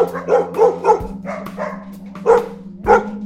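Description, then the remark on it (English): Many dogs barking in a rapid, uneven series of overlapping yelps and barks at a local Be'er Sheva branch of an animal welfare society in Israel, with a steady low hum underneath and no talking. “I saw so many dogs barking and barking, and I was so sad, like I understood it's not a good place for them.”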